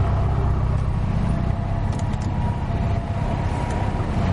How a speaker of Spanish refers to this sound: Un coche para ante la casa de Cristian.